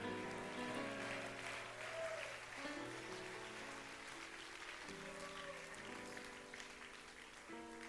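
A church audience claps steadily and continuously in praise of God, a dense wash of many hands applauding throughout, with sustained organ-like chords playing underneath.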